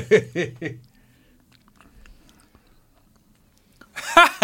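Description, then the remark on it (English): Close-up chewing of ravioli right at the microphone, with short voiced sounds at the start, a quiet stretch of faint mouth clicks, then loud, crackly mouth noises at the end. “You should chew it right into the mic, right? I thought I was.”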